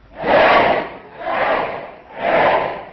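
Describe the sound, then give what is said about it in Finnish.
A group of voices on a radio broadcast gives a three-fold "eläköön" hurrah to celebrate one million radio licence holders. Each of the three loud, broad shouts swells and fades in an even rhythm. “Tämän kunniaksi kannattaa kohottaa 3-kertainen eläköön huuto.”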